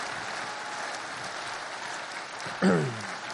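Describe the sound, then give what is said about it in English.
An audience claps steadily as a clap offering to the Lord during a Yom Kippur service, a dense wash of many hands at even loudness, with a brief louder vocal cheer or shout near the end. “Let's give the Lord a big clap offering and thank him for who he is.”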